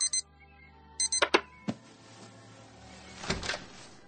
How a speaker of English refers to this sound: Snooze alarm. That was the snooze alarm.